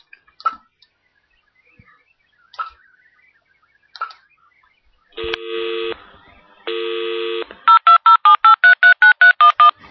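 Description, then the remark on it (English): A few faint clicks, two longer steady electronic tones, then a quick run of about ten crisp telephone keypad dialing beeps as someone phones again, clear, with no one speaking. “Let me try and phone again.”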